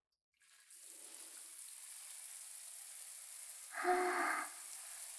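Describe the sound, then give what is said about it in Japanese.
After a moment of quiet, a shower sprays steadily in a bath, a constant hiss of running water rinsing away urine, with a brief louder splashing surge near the end as the stream hits something. No one speaks. “とりあえず汚いからおしっこシャワーで流しちゃいますね。”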